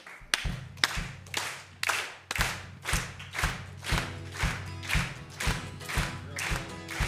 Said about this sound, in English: Would you guys mind clapping with me? We don't normally do this, but I'm going to challenge you to see if how enthusiastic we can be at 9 o'clock in the morning. Oh. Yeah, that's fine, too. I'm going to clap on it with like a beat, though.